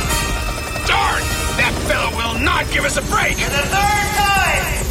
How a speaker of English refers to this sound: The helicopter hovers over the helipad.